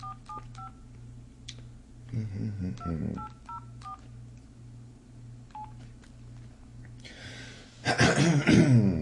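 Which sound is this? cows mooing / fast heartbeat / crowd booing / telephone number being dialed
telephone number being dialed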